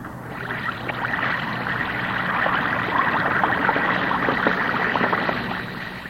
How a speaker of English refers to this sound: That's the Alka-Seltzer fizz. It's the extra lively, cheery, sparkling fizz you know so well.